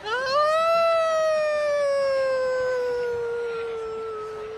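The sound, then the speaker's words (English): A woman's voice lets out one long, sustained howl, rising quickly then slowly sliding downward in pitch, loud and steady for several seconds, imitating an animal's howl. “Anytime I need to change the subject of an uncomfortable conversation, I'm just going to howl.”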